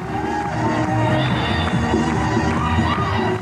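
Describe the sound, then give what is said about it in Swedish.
A dense crowd cheers and shouts continuously, a loud, steady roar of many voices with whoops and rising calls throughout, no single speaker standing out. The crowd is at a Democratic election-night party in the USA on 4 November 1998, during the US midterm congressional elections. “Det här är jubel i natt på demokratisk valvaka i USA.”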